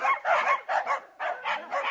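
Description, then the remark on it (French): A dog barks rapidly and loudly, a quick run of about six or seven sharp barks in two bursts with a brief pause between, and no one speaking. “Oh bien sûr, c'est le chien.”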